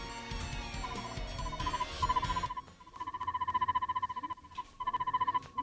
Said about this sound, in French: Merde, mon téléphone. Ça faisait longtemps qu'on l'avait pas faite, celle-là.